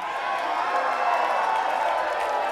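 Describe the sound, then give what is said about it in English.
A steady roar of audience cheering and yelling, many overlapping voices forming a dense, loud wash of noise that holds level for a couple of seconds without pausing. “Yelling all sorts of insane things at us.”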